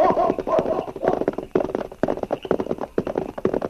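Horse hooves clip-clop steadily along a trail, a quick uneven rhythm of hollow knocks that carries on throughout without any voices.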